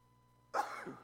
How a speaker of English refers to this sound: You guys gotta excuse me, I think I'm about to sneeze.